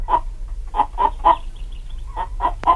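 A capon clucks in a quick, uneven series of about seven short, throaty bursts with brief pauses between them, over a low steady hum and no talking.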